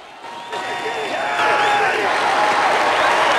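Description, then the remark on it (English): A large crowd gathered outside a skyscraper breaks into sustained applause and cheering, the clapping and shouts swelling louder after the first second and continuing densely, with scattered voices mixed throughout, as a man who has arrived acknowledges them and applauds along. “The man acknowledges the crowd and applauds along with them.”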